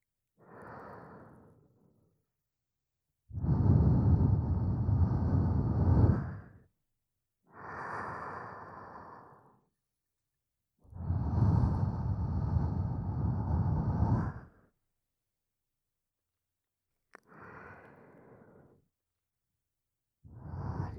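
Slow, warm breaths are blown onto the ears to warm them before an ear massage, two long loud exhales alternating with softer, shorter ones, separated by quiet pauses. Breathy and airy, with no talking.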